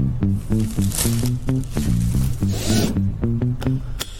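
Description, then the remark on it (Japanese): A car seatbelt is pulled across and fastened by a passenger accepting a ride, its strap giving a short zipping rasp midway through, partly masked by steady rhythmic music playing throughout. No one speaks. “ベルト 今するところだ。”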